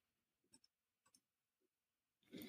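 mouse click

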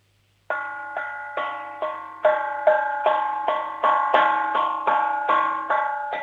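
cooking pot struck

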